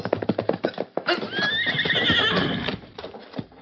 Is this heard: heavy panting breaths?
no